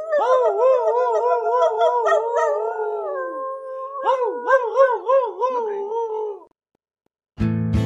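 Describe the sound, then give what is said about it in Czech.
Several wolves, running off into a deep forest, howl joyfully together from afar, their overlapping voices rising and falling in long, wavering tones for about six seconds, then stopping; after a short silence a brief noisy burst begins. “Jen jejich radostné vití bylo slyšet z dálky.”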